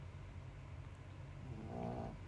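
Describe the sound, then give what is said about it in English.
A sleeping dog snores loudly, a steady low rumbling drone that swells into a louder, throatier breath near the end. No one speaks. “He usually doesn't snore this loud, but fuck.”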